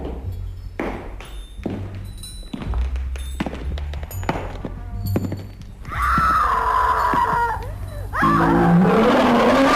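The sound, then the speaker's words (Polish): Sound effects: heavy footsteps thud steadily for several seconds, then a loud, shrill scream breaks out, followed by a lion's deep, rising roar that swells to the loudest point at the end. “Kroki, krzyk, ryk lwa i zaczynamy?”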